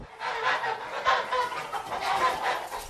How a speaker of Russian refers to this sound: Скоро добрались и до птичьего двора.